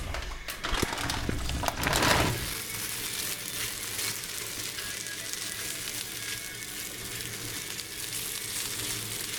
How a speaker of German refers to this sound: Nachdem das Öl schön heiß geworden ist in der Pfanne, tun wir unsere Schupfnudeln dazu.